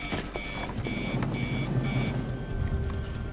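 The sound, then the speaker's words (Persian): A heart monitor alarm signalling tachycardia in room 5918 as a patient's heart rate rises beeps four times in a steady rhythm, each tone short and bright, with a low rumbling hum running underneath throughout. “تاکیکاردی اتاق 5918. ضربان قلب دو بیدار بالا میره.”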